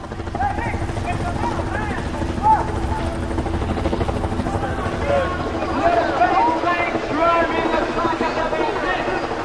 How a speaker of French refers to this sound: L'hélicoptère, un engin associé au son de ses pales d'hélice, le fameux ou à peu près. Un hélicoptère, c'est une forme d'insecte motorisé